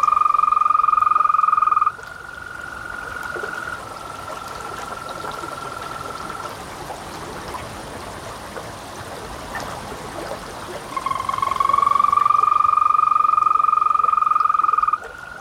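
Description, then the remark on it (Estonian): Green toads give long, steady musical trills, one rising in as another fades, so two sustained calls overlap, fairly loud over a soft background of trickling water. “Mõnikord juhtub ka nii, et rohekärnkonna lauluks peetakse kaerasori laulu, üks putukas on kaerasori.”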